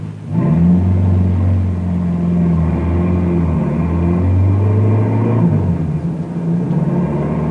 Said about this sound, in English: Harry drives the car a half mile down the road, turns around, and starts back toward the barricade.